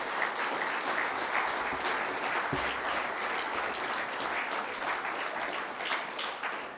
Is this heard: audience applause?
yes